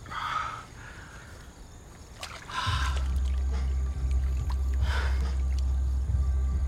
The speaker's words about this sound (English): He lowers himself to the ground and slides over to the pool edge and into the water.